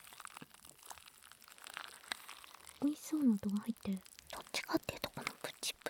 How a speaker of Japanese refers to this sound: 独特の音がします。 もぐもぐする音はあんまり入んないかも。 入ってる、全然入ってる、普通に入ってる。